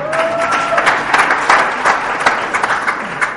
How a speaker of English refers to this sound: I think she deserves a round of applause.